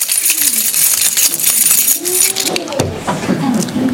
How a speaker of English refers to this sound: Somebody just answered for us. Keys.